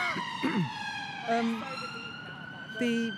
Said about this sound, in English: Oh, I've just stopped there for that ambulance.